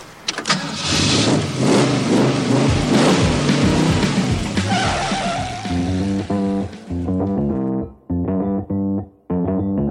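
A car engine roars to life and revs hard, then accelerates through several rising, throaty pulls with brief pauses between, loud with no voices.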